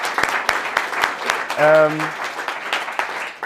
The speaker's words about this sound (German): Deswegen will ich erstmal einen riesen dicken Applaus an euch. Ja? Chapeau an dieses Jahr.